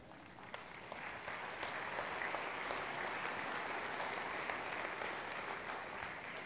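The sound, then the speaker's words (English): A church audience gives a round of polite courtesy applause during a sermon, a dense, steady patter of many hands clapping at even loudness for several seconds with no voices over it. “Thank you for the courtesy claps.”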